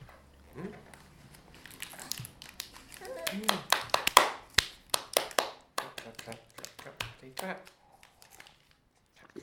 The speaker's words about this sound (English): Clap. Come on, do that. Clap, clap. That's it. Clap, clap, clap.